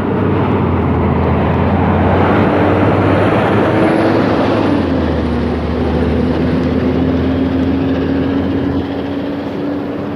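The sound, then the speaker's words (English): A garbage truck collecting trash in a neighborhood with cul-de-sacs rumbles past a person out walking, its loud, steady engine drone and low hum filling the whole stretch, with the engine pitch shifting as it moves past midway through. “And the trash truck is going to go by me again.”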